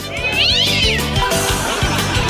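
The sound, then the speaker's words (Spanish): Cats fighting on the roof of a bakery yowl and caterwaul in a drawn-out, wavering cry that rises and falls, loud, over a steady low rhythmic background hum. “Mira, tengo unos vecinos, unos gatitos que siempre se ponen a pelear aquí arriba al techo de la panadería.”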